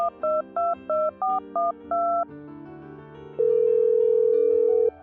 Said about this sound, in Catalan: En Ramon agafa el telèfon i crida na Núria.